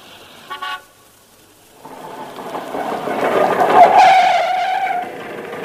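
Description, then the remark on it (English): A quick double toot of a small horn, then a buzzy scooter engine rises in, revving louder as it approaches before settling into a steady idle whine, in Clacton. “Voulez-vous like to hop on the back of this scooter and live it up a bit?”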